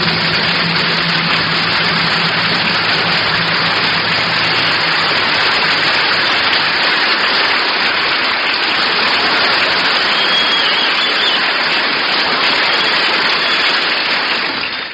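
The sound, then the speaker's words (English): A large audience at the Georgia Auditorium in Vancouver, British Columbia, rehearses applause for a radio broadcast, clapping loudly and steadily for about fifteen seconds, a dense, unbroken wash of applause with a faint low hum underneath at the start. “We're rehearsing applause here in Vancouver, B.C., everybody.”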